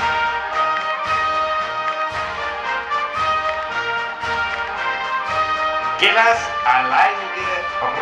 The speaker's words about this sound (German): Ich kann so nicht arbeiten, wenn der Hund bellt. Ich brauche Ruhe.